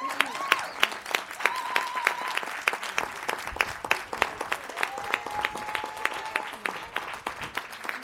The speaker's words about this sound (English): Everybody clap.